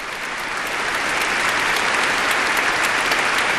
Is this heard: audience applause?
yes